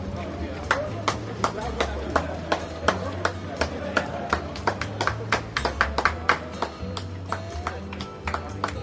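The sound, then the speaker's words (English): Many quick footsteps patter on pavement in a steady, overlapping rhythm as a large crowd of marathon runners runs down Jaffa Road, with spectators clapping and cheering, a low rumbling background and occasional voices. “It's like a sea of people running down Jaffa Road.”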